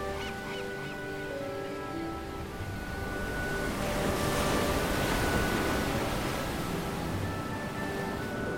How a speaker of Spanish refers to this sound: Ola tras ola, el mar descarga parte de su formidable energía. Las rocas de la costa aguantan estoicamente las acometidas del mar.